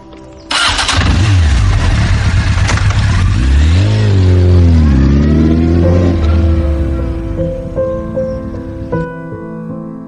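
A motorcycle left with its keys in the ignition sputters to life after a brief pause, then revs loudly up and down a couple of times before settling into a steady idle, with no talking.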